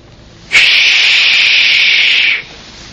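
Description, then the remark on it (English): Leaves rustle in the wind as a steady, airy hiss that begins suddenly, holds evenly for about two seconds, then cuts off, with no voices over it. “And he is like leaves rustling in the wind. You've heard that sound before.”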